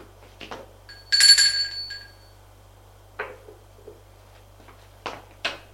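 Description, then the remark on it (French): A doorbell at an apartment door, rung by a visitor after taking the elevator, gives one bright, ringing burst lasting under a second and fading out, surrounded by a few soft clicks and knocks over a steady low hum. “Une fois avoir pris l'ascenseur, il va sonner à l'appartement de Gilles.”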